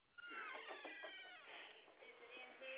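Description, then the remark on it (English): A cat meows loudly and insistently, a drawn-out wavering yowl followed by shorter cries, with nothing else behind it. “So, get that stupid cat.”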